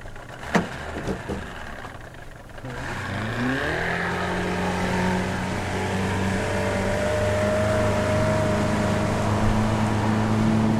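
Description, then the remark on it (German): The engine of a teak motorboat, being readied at night in the tropics, cranks and catches after a couple of seconds, its pitch rising as it revs up, then settles into a steady rumbling drone with no talking. “Ich starre wieder auf Johns rechte Hand, während er Roys Teak-Motorboot bereit macht”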